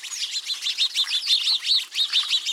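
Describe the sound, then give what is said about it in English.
A flock of house sparrows chatters nonstop as it splashes in a birdbath, with many overlapping, fast chirps blending into a busy, lively twittering. No one speaks. “Like preteens at a swimming pool, this flock of house sparrows chatters as it splashes in a birdbath.”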